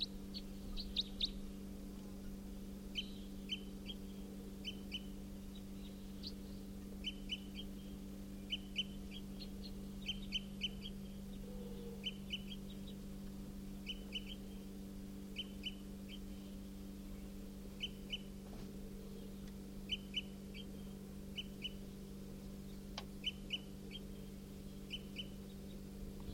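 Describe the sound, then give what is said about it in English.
A wild bird gives short, high type 4 flight calls, repeated in quick pairs and clusters throughout, faint against a steady low hum, with no voices. “It's giving flight calls, type 4.”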